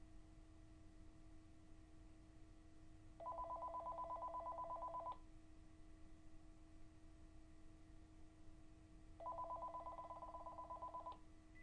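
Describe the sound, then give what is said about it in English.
A telephone line rings twice, each buzzing ring lasting about two seconds with a long pause between, heard over a steady low electrical hum and faint line hiss. “Now, my slave, wait a moment for your phone call.”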